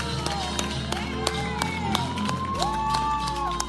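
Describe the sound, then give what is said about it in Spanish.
Scattered clapping and cheering from many people on balconies in the Antequera district, solidarity applause at the declaration of the state of alarm, with sharp claps, whistles and shouts echoing outdoors, sustained throughout at moderate volume over a low steady hum. “Y estos son los aplausos y todos los gestos de solidaridad que llegarían después con la declaración del estado de alarma, el confinamiento general y todas las restricciones que desde entonces se han ido sucediendo y que todavía se mantienen.”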